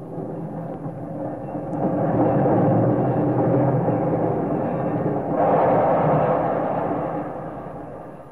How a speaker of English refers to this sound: The headlight of the big locomotive lit the station platform in a glare of blinding light as the train shuddered to a stop.